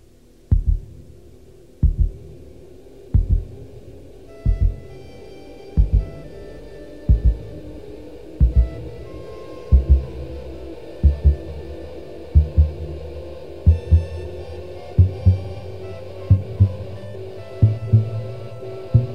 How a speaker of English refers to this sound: The overture also begins and ends with a heartbeat and introduces two of the principal motives that will be used throughout the piece. Notice that soon after the heartbeat, that is, motive 1, is easily heard, a soprano saxophone introduces motive 2.